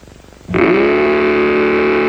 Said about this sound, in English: Well, you can make it roar with Mattel's terrific new Varum hot rudder engine. Put it on a trike like this, or like this.